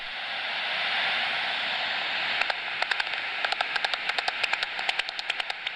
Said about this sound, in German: Endlich. Zuerst hört man es ein bisschen knattern, dann wird es immer lauter und es werden immer mehr. Die Fledermäuse sind am Jagen.